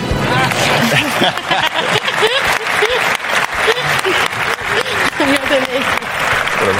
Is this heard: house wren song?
no